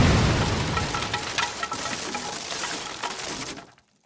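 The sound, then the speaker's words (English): Lit explosives go off in a room in a loud explosion with a deep rumble, then a dense clatter of falling steel and concrete debris rattles on for a few seconds as the roof partially collapses, before cutting off into silence. “she managed to scream before the explosion drowned out all sound and shook the room.”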